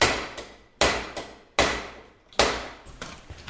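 Sharp tapping on a stuck, rusted cap to loosen it while repairing a bicycle, four firm evenly spaced knocks with short ringing tails and a few lighter taps between them, with no talking.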